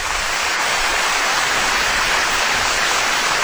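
An audience applauds loudly and steadily, a dense wash of many hands clapping that holds at the same level for the whole few seconds, with no voices over it.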